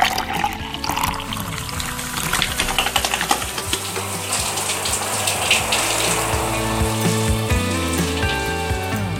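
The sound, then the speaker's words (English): Water runs steadily from a tap in a house, a continuous hissing splash with some clattering and faint tonal hums, fairly loud for the full length, no voices. “so I figured that on nearly every day of the week, I use water maybe 5 times in at least 3 different locations in my house or yard, all before like 6:30 in the morning.”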